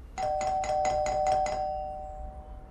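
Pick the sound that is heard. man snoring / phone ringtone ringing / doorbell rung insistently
doorbell rung insistently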